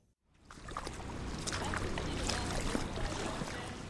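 Water sloshes and churns steadily as a raft is dragged through flooded ground, a continuous splashing wash with scattered bright droplet sounds and a low rumbling undertone.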